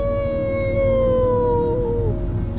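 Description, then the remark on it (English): A dog lets out one long, loud, wavering howl that slowly drifts lower in pitch, held for a couple of seconds over a steady low rumble in the background. “The wolf does. You a wolf? Come on, wolf. Oh, come on, dog.”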